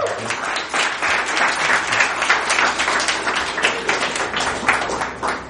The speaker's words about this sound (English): round of applause for yourself.